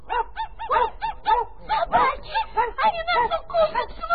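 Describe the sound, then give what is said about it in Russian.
Rapid, overlapping yaps and barks fill the whole few seconds, loud, apparently human voices imitating a small pack of excited dogs. “Затявкали, залаяли по собачьи.”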